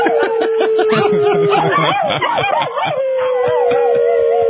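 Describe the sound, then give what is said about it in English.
A man howls loudly and several dogs join in, Amari the Black Lab on baritone, Charlie on tenor and Gidget on soprano, their wavering howls overlapping in a sustained chorus that rises and falls, with a few chuckles mixed in. “Oh, he's getting the dogs to howl with him.”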